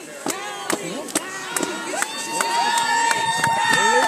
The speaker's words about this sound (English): A large crowd gathered to cheer on her team as they sped under the Burled Arch in fifth place.